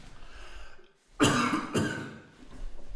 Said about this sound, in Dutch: Ik moet eventjes hoesten. Ja, hoest even.